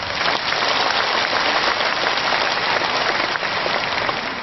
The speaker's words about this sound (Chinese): 所以今天他们的到来也是护法，让我们全场和我们视听剧场的所有的佛友们以热烈的掌声再一次对他们表示感谢。